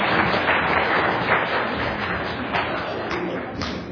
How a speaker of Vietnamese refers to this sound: Rồi, dâng lên Chúa các anh các chị làm tông đồ cho tình thương xót Chúa, dâng lên Chúa một tràng pháo tay.